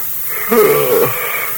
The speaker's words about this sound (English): You got me yawning, too.